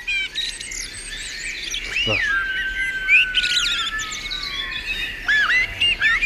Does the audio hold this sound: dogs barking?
no